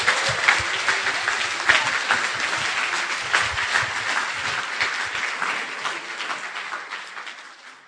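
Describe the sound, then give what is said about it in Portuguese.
A church audience gives a round of applause to God in a dense, sustained wash of many hands clapping, steady and fairly loud throughout, then thinning slightly toward the end. No talking is heard. “Vamos dar uma salva de palmas ao nosso Deus, porque Ele é digno.”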